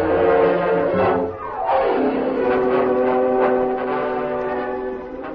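A train's whistle blows loud and sustained, its rich, steady tone bending downward partway through, over the rumbling rush of the train. No one speaks.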